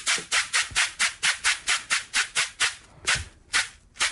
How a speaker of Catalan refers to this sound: És un instrument de percussió que té un so percutiu constant semblant al shaker, però com una mica més dolç d'escoltar. Escoltem el timbre que té la cabassa.